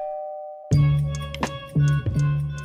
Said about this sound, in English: He rings the doorbell.